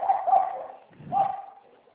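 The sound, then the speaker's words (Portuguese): Two drawn-out barks from dogs in the street, a moderately loud outburst followed by a second after a short pause, with no one talking. “As cachorradas na rua.”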